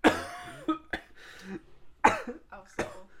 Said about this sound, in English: Don't cough on me!